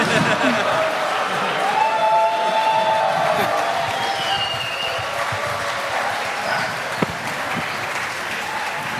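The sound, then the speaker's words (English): Sustained audience applause given as a thank-you to the chaos carriers, everyone who brought a postcard to someone else; a dense, steady clatter of many hands clapping at an even loudness for the whole stretch, with faint scattered cheers and voices mixed in. “Okay, so this applause actually goes out to all of the chaos carriers, everyone that brought a postcard to someone else, so that was your applause as a thank you.”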